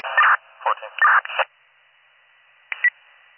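Radio static crackles in short, choppy bursts as someone keys a transmitter on and off: three quick bursts in a row, a pause, then one brief final burst, thin and band-limited, over a faint steady hiss.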